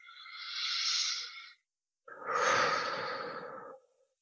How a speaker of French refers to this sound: Prenez une respiration.